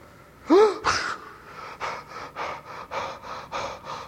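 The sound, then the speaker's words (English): A man lets out a loud, strained gasp for air, followed by a steady run of quick, heavy breaths, panting clearly with no talking. “Are you glad to be breathing again, sir?”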